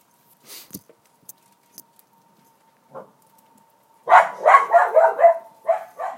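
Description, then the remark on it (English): A dog barks in a church during a sermon, a rapid, fairly loud burst of several yaps after a few seconds of near-quiet broken only by faint clicks and a low hum. “Every church should have at least one dog, and 2 is even better.”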